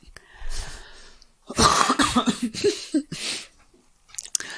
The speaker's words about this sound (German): Jetzt muss ich so husten.